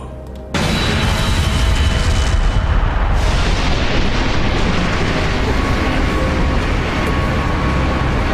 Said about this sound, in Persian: یه موج انفجار ناگهانی.